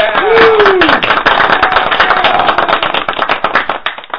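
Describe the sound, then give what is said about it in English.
A crowd claps for a performer's birthday for about four seconds: dense, overlapping hand claps make a loud, steady patter, with a brief vocal whoop at the very start. “let's give him official clapping, okay?”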